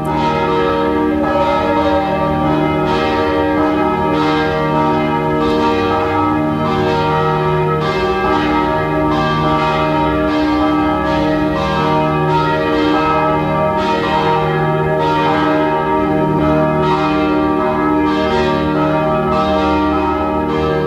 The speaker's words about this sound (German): Es ist 12 Uhr. Sie hören die Glocken der Pfarrkirche Penzing im 14. Wiener Gemeindebezirk.